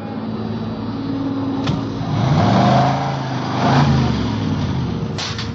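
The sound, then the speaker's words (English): Engines hum and rev at a gas station's 10-minute car wash, with rising and falling pitch as cars move through, over a steady mechanical background and a couple of brief sharp clicks. “Ben and I took up our posts as supervisors of the station's 10-minute car wash.”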